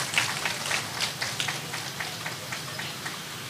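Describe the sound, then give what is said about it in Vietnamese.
A steady round of applause from an audience at a Buddhist school event in Bà Rịa–Vũng Tàu province, Vietnam, honouring a donation of health insurance to monks and nuns. Many hands clap in a dense, crackling patter that holds for several seconds and eases slightly toward the end, with no voices. “Xin cho một tràng vỗ tay thật lớn để tán dương.”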